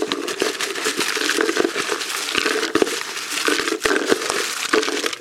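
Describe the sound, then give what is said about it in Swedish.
Paper slips rustle and crinkle continuously as they're stirred around in a jar to mix them for a prize draw of Skånes taltidning T-shirts, with scattered sharp clicks and taps throughout and no voices. “Nu får vi blanda ordentligt här så att...”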